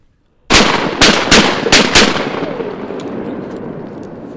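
A rapid volley of about five loud shotgun blasts fired at ducks, each a sharp crack followed by a lingering rumbling tail, with no talking.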